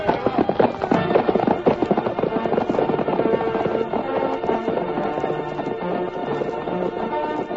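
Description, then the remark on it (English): Horse hoofs galloping in a loud, dense rush as a cavalry group rides out of town across an open plain, led by a white horse; the rapid, overlapping hoofbeats drum steadily for the whole stretch. “swiftest of all was the masked man's white horse, whose hoofs thundered against the earth”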